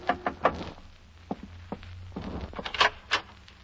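Several sharp knocks on a hotel room door, irregularly spaced and fairly loud, over a low steady hum.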